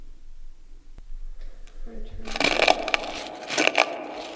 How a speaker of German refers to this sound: Haben Sie das auch gehört? Doch, doch, da knirscht etwas. An der Tür.